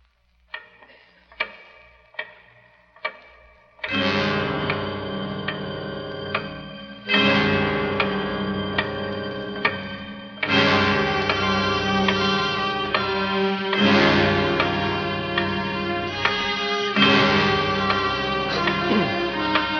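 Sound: large clock ticking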